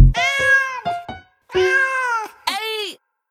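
A cat meows several times: a long drawn-out meow, a couple of quick chirps, another long meow and a short final one, loud and clear with nothing else around.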